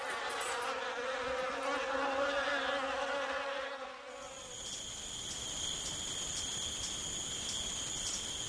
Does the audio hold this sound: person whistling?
no